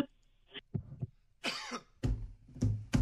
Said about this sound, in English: Still coughing over there?